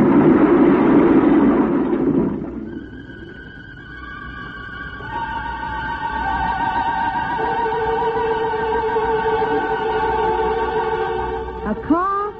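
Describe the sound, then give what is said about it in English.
A burst of rough car engine and road noise gives way to a long, shrill squeal of worn tires skidding as the brakes are put on too quickly, made of several steady, layered tones, ending in a short wavering screech and a small thump as the car hits a telegraph pole. “Brakes put on too quickly, worn tires skidding, a telegraph pole.”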